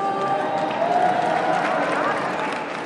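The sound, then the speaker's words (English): A steady wash of applause runs through the whole stretch, a dense crackle of many hands clapping at once, with faint crowd voices murmuring underneath. “We just heard some applause in the background.”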